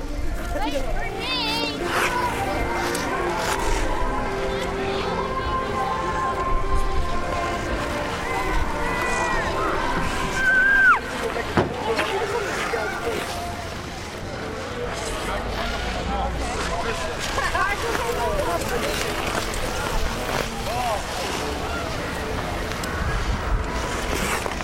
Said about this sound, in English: Dennis Foley recorded these wintry sounds at the skating rink on Boston Common known as the Frog Pond.